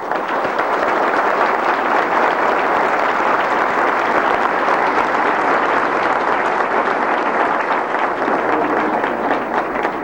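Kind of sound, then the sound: crowd, audience applause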